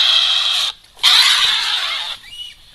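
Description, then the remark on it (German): A European wildcat of the Eifel region, nicknamed the Eifel tiger, gives two loud, harsh, raspy squalls, a shorter one followed by a longer one after a brief pause, ending in a faint trailing rasp. No one speaks. “Genau, das ist die Wildkatze mit dem Spitznamen Eifeltiger.”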